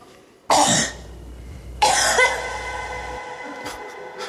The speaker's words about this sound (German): Huster 2, bitte.